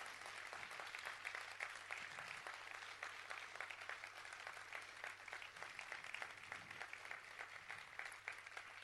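A festival crowd applauds the festival team steadily throughout, a dense wash of many hands clapping at once, sustained and even in loudness with no voices standing out.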